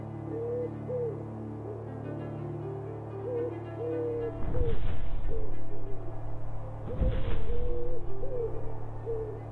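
An owl hoots repeatedly in soft, low calls over a steady background hum, with two brief bursts of rushing, flapping noise partway through.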